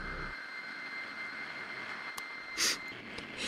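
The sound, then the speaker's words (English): Aircraft engines drone steadily and continuously, a constant hum with a high whine running through it and a brief hissy surge near the end. No one speaks. “But when the engines start to cut out, I sign off.”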